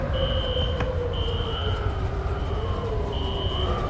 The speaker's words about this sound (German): Alarm 1.